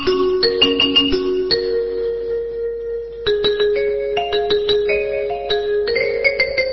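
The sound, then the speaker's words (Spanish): An electronic doorbell chimes out the tune La Cucaracha, a bright, steady melody, one sustained tone stepping to the next, that keeps playing for several seconds with no voices. “¿Qué tiene, toda la melodía en el timbre?”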